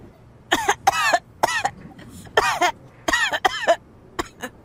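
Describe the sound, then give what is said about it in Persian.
A harsh coughing fit from a person with pneumonia: several rapid coughs in clusters, roughly eight or nine bursts over a few seconds, with short gasping pauses between them and no talking. “کل شبو داره سرفه میکنه.”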